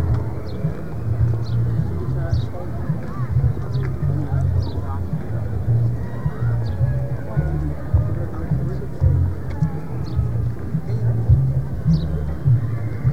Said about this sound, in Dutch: Ze lopen allemaal wel heel vastbesloten, maar eigenlijk heel stil. Maar ja, dat heb je met die landelijke demo's.